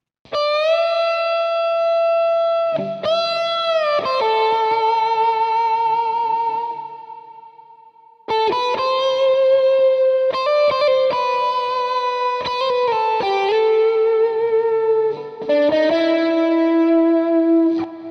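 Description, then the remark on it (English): An electric guitar plays the lead part of a song's intro with heavy distortion, sustained chords and single notes ringing out with thick harmonic overtones, loud, with a brief pause before the riff resumes. “Now, of course, I have distortion on it, so with the distortion, here's what it would sound like.”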